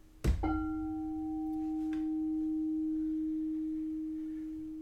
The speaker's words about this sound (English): May the sound of this bell penetrate deep into the garden of your heart.